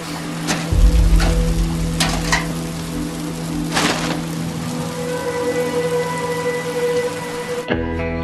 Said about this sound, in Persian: بارون گرفته. نمیتونم همینجوری بذارم بره، یه چتر بهش میدم